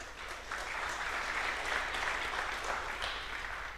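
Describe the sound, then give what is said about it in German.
A crowd claps steadily for a few seconds, a dense wash of many hands, rising quickly at the start and holding fairly even throughout with no voices. “Hat da jemand von euch mitgemacht? Applaus.”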